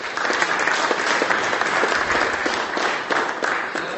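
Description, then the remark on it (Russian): A large audience applauds a women's volleyball team from Tatarstan that won all trophies in the 2024 season: a dense, continuous wash of many hands clapping at once that stays fairly loud and even from start to finish, with no one speaking over it. “Вам аплодисменты.”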